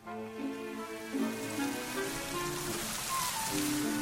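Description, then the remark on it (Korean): Barley stalks in a field on Udo island knock together and rustle steadily in a cool sea wind, a dense, continuous crackling hiss that stays fairly even throughout, with faint sustained tones drifting underneath. “마치 시간이 멈춘 듯 시원한 바닷바람과 함께 보리떼들이 부딪히며 사그작 사그작 소리를 낸다.”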